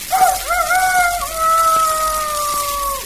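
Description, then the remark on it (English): An old Shanghai rooster crows once at dawn in a yard, a loud, long drawn-out call that starts with a few short breaks, then holds a steady tone before trailing off, with no other sounds around it. “The break of dawn is announced by an old Shanghai rooster who wakes the other denizens of the yard with his”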